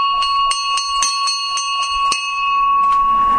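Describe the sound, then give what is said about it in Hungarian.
A bright metal fire engine bell, used on fire engines instead of a siren to signal their arrival, rings in rapid repeated strokes, about eight quick clangs with a sustained ringing tone, loud, with no voices. “Mindenféle ötletek szoktak elhangzani, mert tulajdonképpen ez a tűzoltó szereken volt, egy sziréna helyett használták, és ezzel jelezték azt, hogy érkeznek.”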